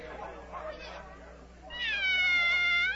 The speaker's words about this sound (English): Hello! Oh, it's the Cheshire Cat. Now I shall have somebody to talk to.